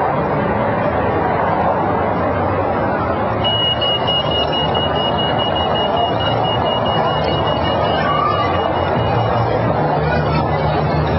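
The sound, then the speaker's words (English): Busy street noise in Sendai City, Japan: a steady wash of traffic rumble and crowd chatter, with a thin, sustained high-pitched tone running through the middle stretch. “Drop it among the traffic.”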